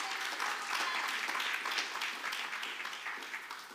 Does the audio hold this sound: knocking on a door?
no